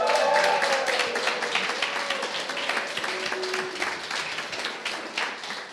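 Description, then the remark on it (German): A crowd applauds enthusiastically, dense overlapping hand claps forming a steady, lively wash of sound that stays fairly loud throughout, with a few faint voices and cheers mixed in. “Genau, okay, das war ein sehr enthusiastischer Applaus.”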